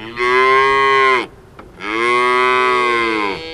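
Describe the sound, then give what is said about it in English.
Two long, loud moos from dairy cows in a herd of about 200 on the rural campus of Cal Poly University in San Luis Obispo, California, a short gap between them, each a deep, drawn-out bellow with no voices present. “On the rural campus of Cal Poly University in San Luis Obispo, California, a herd of about 200 dairy cows has long been part of the curriculum.”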